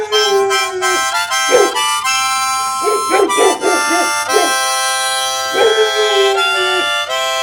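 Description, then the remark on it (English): A dog howls in long, wavering, downward-sliding wails, broken midway by a cluster of short yelps and whines before a final drawn-out howl. “Bad dog.”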